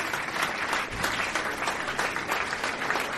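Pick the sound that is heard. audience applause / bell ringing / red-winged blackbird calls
audience applause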